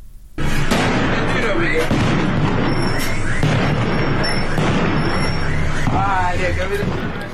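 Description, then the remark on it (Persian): Continuous gunfire and explosions crack and boom in rapid, overlapping bursts, loud and sustained throughout, with shouting voices mixed into the chaotic din, at a protesters' gathering in Sanandaj, Iran, on a Sunday evening. “تصاویر و ویدیوهایی رسید از سنندج تا تجمع معترضان و روشن کردن آتش در شامگاه یکشنبه و صدای ممتد تیراندازی و انفجار حکایت داشت.”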